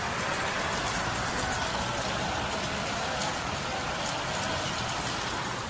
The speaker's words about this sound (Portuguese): Vamos ver se a gente tem o som da chuva aqui, ó.